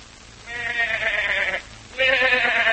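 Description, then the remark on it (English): A goat bleats twice, loud: a long, wavering cry, then a brief pause before a second bleat begins and is cut off at the end. “This poor thing's the goat in more ways than one, Jim.”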